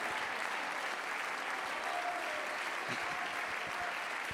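audience clapping hands

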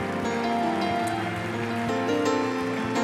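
audience clapping hands

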